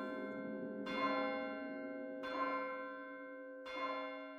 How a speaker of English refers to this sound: As her soul left her body, the church bell in the valley rang out 12 times.